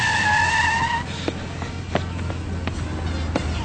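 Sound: car arriving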